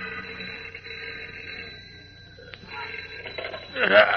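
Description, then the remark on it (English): An old telephone bell rings in a sustained, buzzing peal, dips briefly, then rings on and swells to a louder burst at the end. It is the telephone beside a sleepy night telegraph operator in the deserted Daily Planet city room at night. “A few minutes later, a sleepy night telegraph operator in the deserted Daily Planet City room yawns and reaches for the ringing telephone at his side.”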